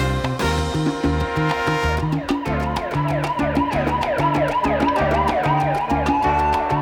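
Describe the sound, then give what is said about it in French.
Police sirens wail in repeated rising and falling sweeps over a lively salsa band in New York, blending with trombones, trumpets and steady conga and bongo percussion; the sirens sound loud, with no voices. “À New York, le berceau de la salsa, les sirènes de la police se mêlent aux sonorités des trombones et des trompettes, ainsi qu'aux timbres percussifs de conga et de bongo, des instruments signature de la salsa.”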